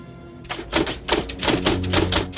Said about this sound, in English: At home, Leo types on white paper, then removes the page from his typewriter.